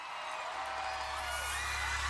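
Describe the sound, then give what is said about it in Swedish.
A dense wall of excited young voices from a young audience in a concert arena, after the opening act has left the stage, shrill screams and squeals layered over constant chatter, loud and continuous with a low hum underneath. “börjar ett högt brus av pirriga röster och tjut sprida sig bland den unga publiken.”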